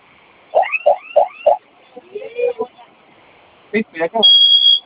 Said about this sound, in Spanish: Ok, esa sirena ahorita se va a silenciar en unos segundos, solamente basta con que ingresen una vez su clave. Ahorita se va a silenciar, nos esperamos.